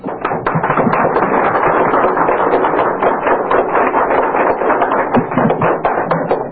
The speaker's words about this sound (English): That applause, by the way, was made by a Washington, D.C. coffeehouse audience that had started out by booing and hissing.